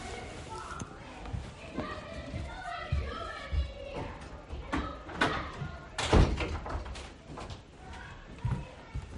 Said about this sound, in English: Sorry, I'm going to close the door.